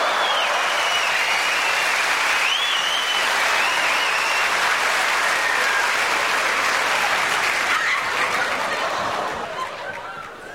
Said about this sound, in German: Guten Abend. Dankeschön, vielen Dank. Der Applaus ist gerechtfertigt.